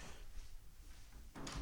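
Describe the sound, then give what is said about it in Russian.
A cat named Basya knocks at a door again, producing one brief rattling thump near the end after near-silence. It is quiet, with no talking. “И то есть уже сейчас кошка опять стучится, извините.”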